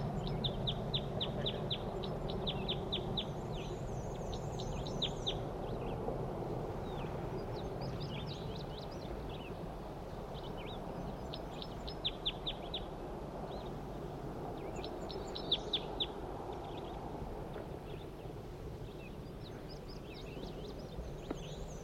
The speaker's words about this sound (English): That was a wild bird. Male.